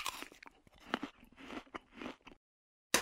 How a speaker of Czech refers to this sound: Tako možemo da ćaskamo dok grickamo jabuku.